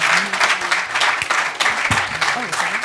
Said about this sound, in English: And let's give one more round of applause for our incredible Den speakers.